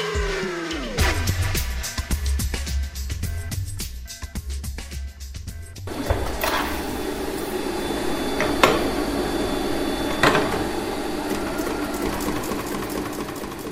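A Singer sewing machine runs with a fast, steady mechanical clatter of stitching, then the sound grows into a denser, noisier whir with a few louder clunks, and no one speaks.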